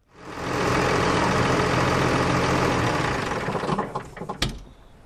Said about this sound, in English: I've just come from the farmyard there driving a Case Puma. It's a red tractor anyways. It's used for topping and slurry and general farm work.